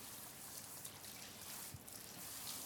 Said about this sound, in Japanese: ではいきます。どうぞ目は閉じていてください。最初は頭頂からシャワーします。